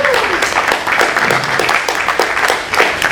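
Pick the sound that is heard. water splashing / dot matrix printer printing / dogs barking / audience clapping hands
audience clapping hands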